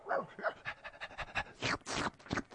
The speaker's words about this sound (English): Soon, it melts and is licked up by a dog.